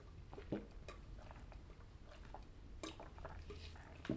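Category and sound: food or drink, drinking water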